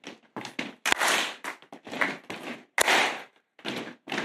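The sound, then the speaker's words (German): Rhythmic thuds of the right foot and then the left foot stomping, followed by a sharp hand clap, repeating in a steady pattern of short, loud, percussive bursts with brief gaps between them. “Also du darfst mal so mit deinem Fuß, mit dem rechten und dann mit dem linken und dann mit der Hand klatschen.”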